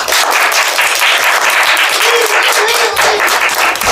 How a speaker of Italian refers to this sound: incredibile ma vero, ce l'abbiamo fatta, fatevi un applauso.